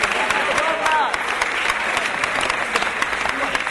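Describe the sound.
Steady, dense applause from an audience, many hands clapping at once in a continuous loud roar, with a few voices briefly rising through it near the start.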